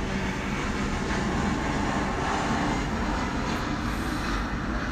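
airplane passing overhead

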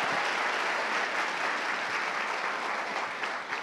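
audience applauding

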